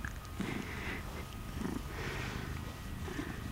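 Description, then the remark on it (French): A cat purrs steadily, a low continuous rumble that swells and eases with each slow breath, with no other sounds or voices. “Un chat qui ronronne, ça vibre.”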